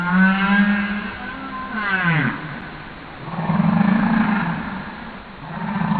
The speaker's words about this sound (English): sent Google hard drives full of humpback whale songs